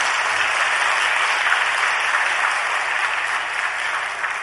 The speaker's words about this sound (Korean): 박수 한번 해주세요.